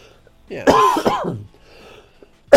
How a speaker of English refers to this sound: Don't cough in my face.